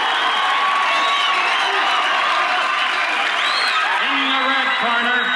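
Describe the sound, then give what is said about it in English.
A boxing arena crowd cheers in a loud, unbroken roar as boxer Apollo Creed is in the ring playing to the crowd, with individual shouts and whoops rising out of the dense wash of voices for the whole stretch. “A crowd anticipating a great fight now as Apollo is in the ring. He's playing to the crowd.”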